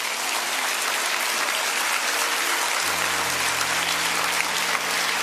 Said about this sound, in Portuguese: E a igreja que está aí, que concorda com o pastor, vai agora aplaudir se concorda com o que eu estou dizendo.